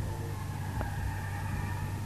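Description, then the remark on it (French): Car tires screeching in a thin, sustained squeal over a steady low engine rumble, with a brief knock partway through and no voices. “Oh merde, j'attendais le boom, on a entendu un crissement de pneus et j'entendais paf!”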